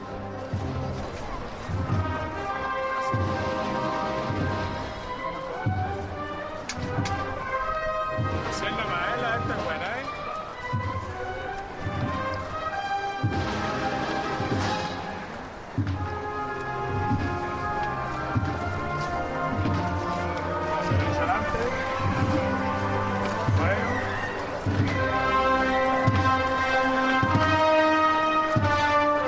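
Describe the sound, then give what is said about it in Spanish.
On a Holy Saturday afternoon, the first float (paso) of the Servitas brotherhood approaches the Plaza de la Campana in a Holy Week procession, with loud, continuous brass band marching music, sustained tonal chords over a steady, pounding drumbeat, and crowd murmur beneath. “Pues vamos a disfrutar de esos sonidos, Antonio, del primero de los pasos de la hermandad de los servitas que se acerca a la Plaza de la Campana.”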